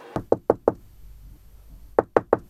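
Knocking on a door: four quick, evenly spaced raps, a pause of over a second, then three more in the same brisk rhythm. Each knock is sharp and solid, with no voices.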